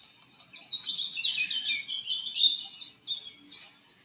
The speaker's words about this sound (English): Let you know what's playing. Chiff chaff there. Gold crest.